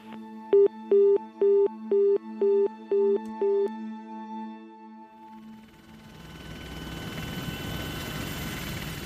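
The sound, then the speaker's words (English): A police helicopter with heat detection gear, searching the Matapihi Peninsula, gives a steady, rhythmic thudding of rotor beats at first, giving way to a broad, swelling roar of engine and wind noise as it passes overhead. No voices. “They had helicopters with heat detection gear and used ground-penetrating radar.”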